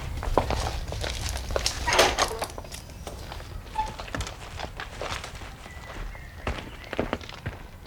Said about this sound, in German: Bob trat durch ein modriges, hölzernes Gartentor